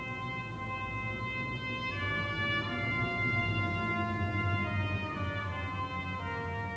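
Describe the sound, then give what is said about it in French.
An echoing, wordless singing voice holds long, steady notes, shifting pitch a couple of times in a slow, eerie melody, continuous and fairly loud with no talking. “Subitement, une voix fait écho. Un joli chant entonné par une sirène, m'emportant dans ses paroles, je rêve.”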